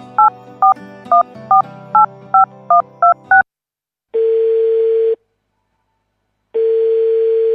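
A phone call is placed: a rapid run of about nine touch-tone keypad beeps dials a number, then the line starts ringing with two long, steady ringback tones separated by a pause. Clear, with no voices.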